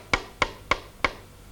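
Four sharp knocks on a closed door that does not open, evenly spaced in a steady rhythm, moderately loud, each with a brief hollow ring, with nothing else around them.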